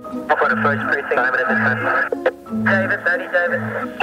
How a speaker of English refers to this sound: If you've ever sat down and listened to a police scanner, then you know it's not always the most exciting way to spend your free time. Odds are you'll hear a lot of dead air, static, and voices you can't quite understand.